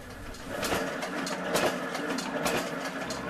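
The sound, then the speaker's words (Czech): A printing press runs with a steady mechanical whir, broken by louder rhythmic clacks about once a second. No voices are heard. “I zato smo slušali zvuke štamparije.”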